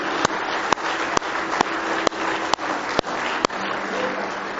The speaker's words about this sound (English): Give Him a big hand clap of praise tonight if you love Him.